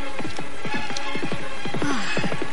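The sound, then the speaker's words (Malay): Horse hooves clip-clopping in a steady, rhythmic trot as a horse follows a rider, a quick series of hollow clops that sound clear, with no one talking. “Sepertinya ada seekor kuda yang tengah mengikuti perjalananku.”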